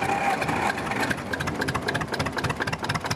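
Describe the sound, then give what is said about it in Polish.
An old tractor engine idles at a tractor event with a steady, knocking chug, its rhythmic mechanical pulses continuing throughout without any talking. “Widzę, że panowie fachowym okiem rozpoznajecie, co to za ciągnik?”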